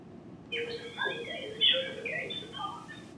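Sine-wave speech from a 1981 speech-perception study by Remez, Rubin, Pisoni and Carroll: a few pure whistling sinusoid tones glide and warble together in the rhythm of the sentence "It was a sunny day and the children were going to the park," sounding eerie and bird-like for about three seconds, with no natural voice present.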